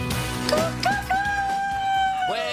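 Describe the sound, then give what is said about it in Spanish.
A single rooster crows loud, with a short rising start that stretches into a long held call and drops off at the end, over a faint busy background. “Es que a veces falta un gallo que te diga hola, buenos días.”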